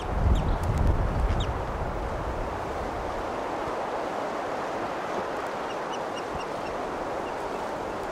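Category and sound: bird, wild bird calling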